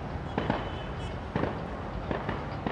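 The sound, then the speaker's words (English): Tear gas canisters and rubber bullets being fired by Egyptian security forces at protesters in Tahrir Square, Cairo: sharp, sudden pops come in small irregular bursts, some in quick pairs, over a dense, steady roar of background noise. “But emergency workers can't keep up with the flow of patients wounded by the steady hail of tear gas and rubber bullets fired by the Egyptian security forces.”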